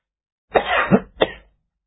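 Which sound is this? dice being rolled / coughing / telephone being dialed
coughing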